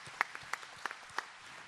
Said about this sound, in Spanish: Dele más fuerte el aplauso para que se sientan cómodos.